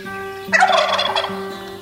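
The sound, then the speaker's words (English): A wild turkey lets out a single loud, rapid gobble, a bubbling rattle lasting about a second, heard clearly with no voices around it. “It wasn't until the DNR's reintroduction of turkeys in 1976 that a gobble was even heard in the 20th century.”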